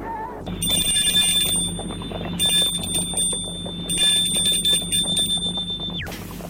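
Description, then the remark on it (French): A gate bell at a parents' house is rung, sounding in a steady, sustained electric trill, high-pitched and fairly loud, pausing briefly twice before cutting off abruptly, with a low background hum and no voices. “Il arrive vers ses parents, effondré, sonne au portail.”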